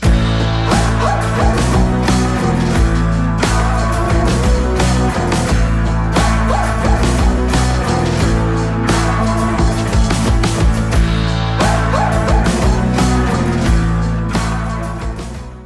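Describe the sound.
A person imitates a dog barking, with short bark-like yips scattered through a loud, dense band track on a recorded song that plays continuously from start to finish.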